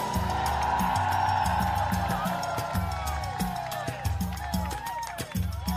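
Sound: crowd cheering and shouting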